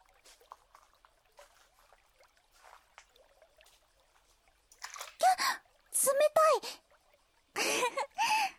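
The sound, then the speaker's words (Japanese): Soft, scattered splashes and trickles of river water as someone gets into the river on a hot summer day, quiet and irregular, followed by a few loud, high-pitched vocal exclamations from a young voice over the water. “それより、ずっとこうしてるのも暑いし、早速川に入ろうよ。”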